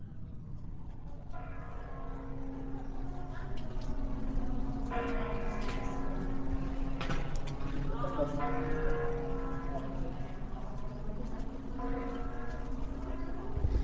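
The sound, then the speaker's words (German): The Kremlin clock-tower bells chime in a slow melodic sequence, each strike ringing out and overlapping the last, over a steady low rumble of background noise; recorded in the afternoon. “Ja, das sind übrigens die Kreml-Glocken, was man da hört.”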